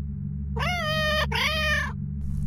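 A cat gives two drawn-out meows in quick succession, clear, with a steady low hum running underneath and no talking.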